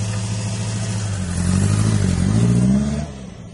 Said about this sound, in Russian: Они вели моего дядю к автомобилю с решетками на окнах. Дверца захлопнулась, машина скрылась за поворотом.